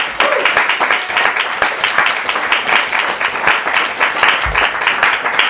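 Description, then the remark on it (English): An audience at a reading in a small gallery applauds the readers loudly and steadily, dense overlapping claps forming a continuous roar that holds at an even level throughout, with no voices breaking through. “One more hand of applause, please.”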